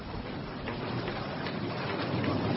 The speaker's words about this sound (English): Here it comes. Uh-oh. Does your roof leak? Only when it rains. My goodness me, it's really pouring.